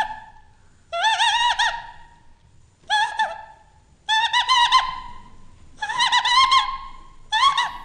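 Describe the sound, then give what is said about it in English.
A reedy, buzzing imitation of a hen's clucking, blown on a common leaf: five loud, harmonic-rich bursts separated by short pauses, clear with no talking. “Apparently, sounds of nature can be conveyed with the help of a common leaf. This is a hen.”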